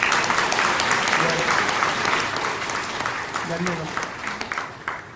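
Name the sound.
hand clapping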